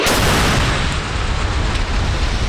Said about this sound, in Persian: مانوری که در آن موشک‌های بالستیک و کروز شلیک شدند. کرملین اعلام کرد که نیروهای هوافضای روسیه با موفقیت موشک‌های بالستیک مافوق صوت کینجال با قابلیت حمل کلاهک هسته‌ای و پرتاب از هوا و دیگر انواع موشک‌ها را در طول رزمایش شلیک کردند.